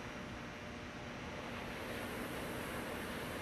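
A steady, broad wash of ocean surf rolls on without pause, a soft continuous roar of breaking waves, with no voices present.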